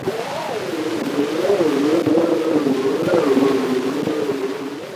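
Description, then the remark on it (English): An early recording of the Metropolitan Elevated Railway in New York City: a steady, hissy rumble with a low, wavering hum that slowly rises and falls in pitch, holding an even loudness throughout, with no voices. “The earliest ambient noises that we could have recordings of are probably the sounds of the Metropolitan Elevated Railway in New York City.”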